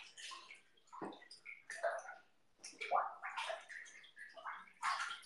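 Bath water bubbles and sloshes in irregular bursts, with a brief pause midway before the gurgling churn picks up again at a steady, moderate level.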